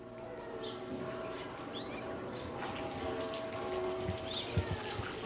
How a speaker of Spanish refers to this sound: Este es el ambiente sedante y plácido de un pequeño jardín. Una esquila lejana en el horizonte. Cantos de pájaros. Y este ruido apacible, manso, del agua fluyendo en una fuente. Estamos en el pequeño jardín de la casa del maestro Julián Carrillo.